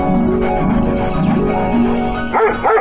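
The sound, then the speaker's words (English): A labrador barks and yips in a loud, continuous run of pitched, wavering vocalizations that rise and fall, ending in a few sharper higher cries; no one speaks. “Oh, my dog, that lab is an animal.”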